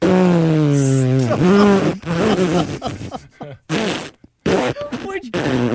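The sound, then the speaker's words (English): A person vocally imitates a long, drawn-out fart of a horse called Bus, a low buzzing, sputtering voice that wavers in pitch and breaks into choppy bursts before trailing off. “Have you ever heard a horse fart?”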